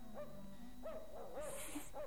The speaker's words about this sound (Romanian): Auzi? Un lătrat. Ia, hai să mergem să vedem.